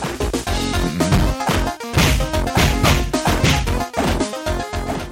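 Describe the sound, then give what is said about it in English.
Rapid, loud punch effects from a beat 'em up video game published by Activision: repeated smacking thwacks and crashing hits in quick succession over busy game music, with no one talking. “All right, that's some real punching.”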